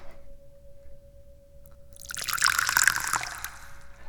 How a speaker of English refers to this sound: Yeah, it also means it's time to pour the tea.